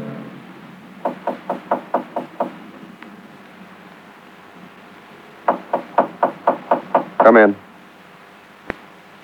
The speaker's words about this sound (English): Why the knock